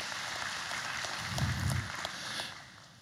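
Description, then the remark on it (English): An audience applauds the speaker's wife as she brings up props, a dense patter of many hands clapping, holding steady for a couple of seconds before tapering off. It is fairly soft, with no voices over it. “And my wife, who's helping me with these props, can you give my wife a round of applause as she brings these things up?”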